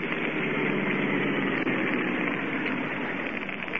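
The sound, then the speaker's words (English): A car engine hums steadily at a low, even pitch as the car drives off the road toward the shore at night by moonlight, with its lights off. A continuous rumble with no talking and no change in speed across the few seconds. “We'll swing off the road and drive toward the shore.”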